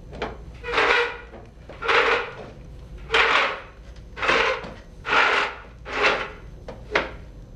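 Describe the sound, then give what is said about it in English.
A wooden chair is scooted forward across the floor in a series of about seven short, rough drags at a steady rhythm, clear, with no voices. “Isabella doesn't move, so Maria scoots her chair forward.”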